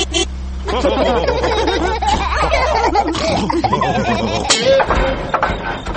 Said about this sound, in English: Oh dear, the car does not sound very well.